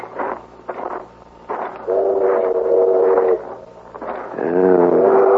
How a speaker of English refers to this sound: The train's pulling in. Let's get on it and get out of here.